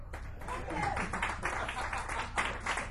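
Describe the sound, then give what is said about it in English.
Audience applause fills the whole moment, a dense, steady patter of many hands clapping together at a moderate, even level, another round of applause for two performers at the end of a show. “Another round of applause”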